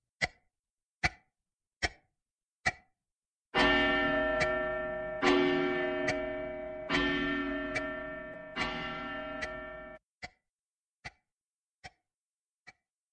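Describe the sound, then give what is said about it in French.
A pendulum clock ticks steadily, then strikes four loud, resonant chimes at an even pace, each ringing out and decaying into the next, before the sharp ticking resumes. No one speaks. “Heure 4. La pendule.”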